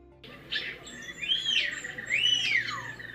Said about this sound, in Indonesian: Salah satu spesies yang dilatih untuk dilepas liarkan adalah Myna Bali atau Bio Bali yang merupakan koleksi di sebuah rumah pedesaan.